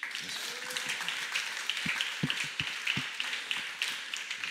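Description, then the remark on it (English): An audience claps for a pastor in a steady, dense patter of many hands for several seconds, fairly soft overall, with a few sharper individual claps and low thumps standing out. “Let's just clap for Pastor Malcolm.”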